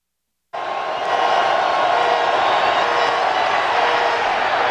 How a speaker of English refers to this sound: It's the loudest crowd reaction I've ever heard.